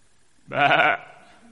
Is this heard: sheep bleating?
yes